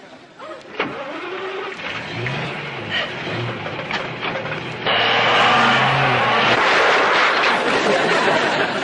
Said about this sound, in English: It's a complicated motor vehicle based on the principles of the internal combustion engine, a machine far too complicated for you to understand.